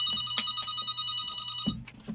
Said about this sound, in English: Well, I'd better answer the phone here. I'm sure you all heard that loud.